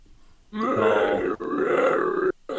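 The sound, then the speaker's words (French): A voice imitates moaning heard inside a building, a long, low, groaning moan held for nearly two seconds with a brief catch midway, then cut off before a second moan begins. No words are spoken. “Vous entendez les gémissements dans la bâtisse.”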